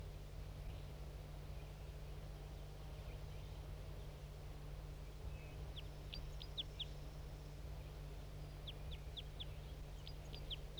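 Short bursts of high, thin bird song from a singing male bird arrive in two clusters of quick chirping notes as another male and other birds join in on a hill, all fairly faint over a steady low hum and hiss.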